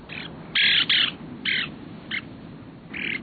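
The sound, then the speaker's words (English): Plover calls on the coast, five or six short, clear piping notes at irregular intervals, fairly loud, over a steady low rumble of wind or surf. “Conservation efforts are afoot on both the Atlantic and Pacific coasts to protect these plovers.”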